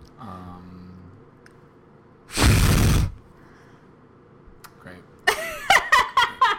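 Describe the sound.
A loud, breathy fart noise blown with the mouth lasts about half a second, followed after a pause by bursts of laughter. A short low voice sound comes at the start.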